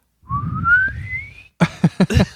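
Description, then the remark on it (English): A voice imitates a penny whistle placed in a baby's bottom to let out a fart: one thin whistled tone sliding steadily upward for about a second over a low, buzzy rumble, followed by a few short, choppy vocal bursts. “It sounds like a penny whistle. Like the pitch goes up as the yeah. As the fart continues.”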